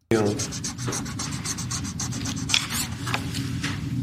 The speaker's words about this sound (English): Just listen to the sound of that Sharpie moving smoothly across the paper.